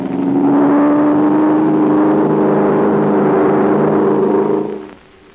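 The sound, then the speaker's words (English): A loud, droning airplane engine holds a steady hum, its pitch creeping slightly upward as it circles and dives, then the roar cuts off abruptly near the end. “The plane's flying in a circle. It's getting ready to dive.”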